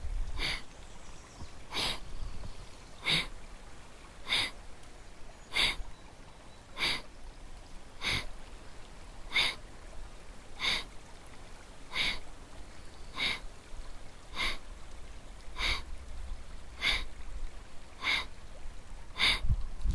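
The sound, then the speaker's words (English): Kapalabhati breathing: about sixteen sharp, forceful exhalations through the nose, evenly spaced a little over a second apart, each a brief hissing puff over a faint steady background, with no talking. “Again, performing Kapalabhati, taking a full inhale and begin Kapalabhati.”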